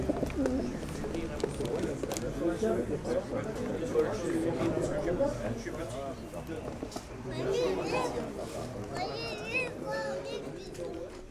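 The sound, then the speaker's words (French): A dense chorus of pigeons cooing in a loft, 20 old and 12 one-year-old male pigeons, overlapping low throaty coos and soft burbling that continue steadily throughout, with occasional higher chirps breaking through near the end. “J'ai 20 vieux et 12 pigeons un an.”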